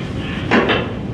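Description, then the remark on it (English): A phone being laid down during a call: two quick, fairly loud knocks in close succession, a brief clattering thud against a low steady background hum, with no talking. “I think you just laid the phone down.”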